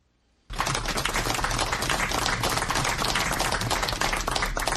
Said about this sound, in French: C'est une foule parmi laquelle 2 ministres et les militants du RDPC parti au pouvoir qui applaudit l'arrivée de Mama Abakaï, maire de Lagdo, et 10 autres anciens otages à Yaoundé.